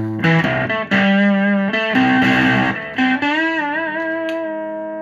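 Guitar run through an MXR Octavia octave fuzz pedal in the standard MXR box, with the bus tone unplugged: thick and distorted with a buzzy upper-octave overtone, playing a few sustained notes and a bent, wavering phrase with no talking.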